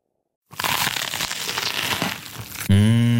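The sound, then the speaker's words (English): A loud, sustained crunching of someone biting and chewing crisp, juicy vegan food, dense crackly noise lasting about two seconds, followed by a low, satisfied hum from a voice. “Mmh, crunchy, kross und saftig.”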